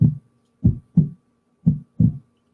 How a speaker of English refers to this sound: So I'll see if I can make that happen. Everyone feel a heartbeat, if you could throw a thumbs up or a, I don't know, scowly face or something fun to watch.